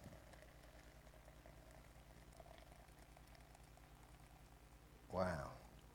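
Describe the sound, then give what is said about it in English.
Liquid is poured into a container with a low, steady bubbling hiss, then a short, louder gurgling splash near the end. No one speaks. “Now, I'm just going to pour this in here, right up.”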